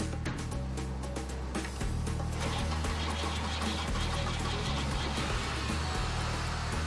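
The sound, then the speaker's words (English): A car engine is started with an auxiliary battery. It turns over and rumbles to life, a loud steady drone with a brief falter early on before it settles into a continuous idle. No one speaks. “That way he wouldn't have to help me start it every time I come here. Auxiliary, battery.”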